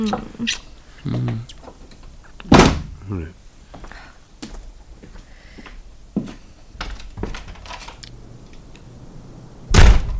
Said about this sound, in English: Who slammed that bloody door?